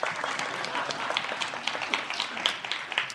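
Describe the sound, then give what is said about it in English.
Audience applause of many hands at a church history teaching session: a dense, steady patter of claps at moderate loudness, with a few sharper individual claps standing out, lasting about three seconds without anyone speaking. “You can applaud.”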